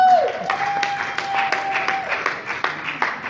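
An audience claps steadily throughout, a dense, continuous patter of many hands at moderate loudness, with a thin sustained tone ringing faintly underneath for the first couple of seconds.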